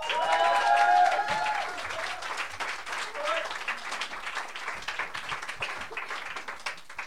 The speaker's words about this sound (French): applaudissez-le.